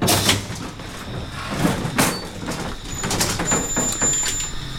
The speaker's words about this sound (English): Not the oldest elevators in Detroit, but going by the serial number, among the oldest actively used elevators in the city right here. So this gate is pneumatically operated. So what that means is that I push this knob right here forward.